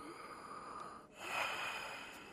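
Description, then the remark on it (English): A coughing patient breathes deeply during a medical examination: one long airy breath, a brief pause, then a stronger, rougher breath. It is fairly quiet, with no talking. “Okay, now here. Breathe.”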